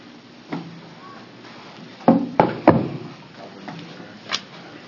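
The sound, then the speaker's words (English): A chair is carried in for a panel and set down: a soft knock, then a quick cluster of three wooden clunks and scrapes, and one last tap. “We probably need another chair.”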